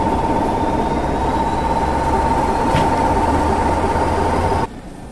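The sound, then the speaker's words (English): A North British-built diesel shunting engine, D2767, an 0-4-0 with three coaches, comes into a platform, rumbling steadily with a low, continuous engine drone and a faint high whine, the noise cutting off abruptly near the end. “And coming into the platform now, ready to form the next train, but only as far as Caneal, is a North British-built diesel shunting engine, D2767, an 040 from the days of the British Rail 1955 modernisation plan, with three coaches,”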